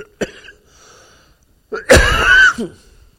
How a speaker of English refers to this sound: Excuse me, I don't want to cough a lung up here.